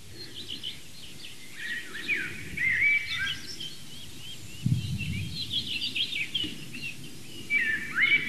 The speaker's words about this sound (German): Währenddessen genießt ihr die Amsel, das ganz zart unterlegt ist vom Rotkehlchen.